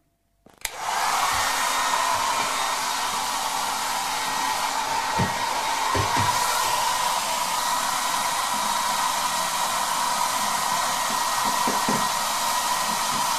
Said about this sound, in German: Und deswegen greife ich jetzt zu meiner Geheimenteisungswaffe, meinem Föhn. So, auf geht's.